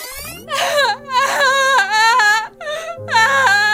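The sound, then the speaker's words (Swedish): Loud, high-pitched wailing sobs in long, wavering bursts with brief gasping breaks, played back as a recording of a person's own crying, with a steady low hum underneath. “Playback till ja. Mitt gråt.”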